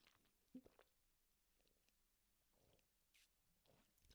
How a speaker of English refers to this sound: All right, this is where I'm going to sip my water.